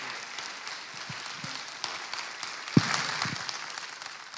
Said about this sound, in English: Always a little taken back by applause.